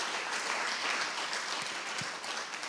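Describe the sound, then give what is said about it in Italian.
A crowd claps steadily in applause for Jesus at a religious gathering, a dense, continuous wash of applause, loud and even throughout with no voices standing out. “Facciamo un applauso a Gesù, per favore.”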